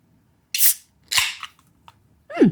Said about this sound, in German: Willst du das Bier öffnen zuerst oder ich? Ja, ich öffne es mal. Aber machst du das eigentlich, dass du oben drauf klopfen, das bei Dosen, das mache ich immer. So, pass auf, jetzt kommt's.